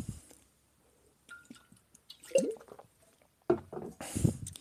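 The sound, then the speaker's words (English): Someone sips a drink: a few soft, wet slurps and gulping swallows in short bursts, with quiet pauses between them and a slightly louder final gulp. “All right, let me take a sip.”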